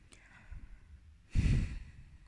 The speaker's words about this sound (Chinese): 还有，你再打呼，我真的打你了。或者你出去睡，别吵我，烦死了。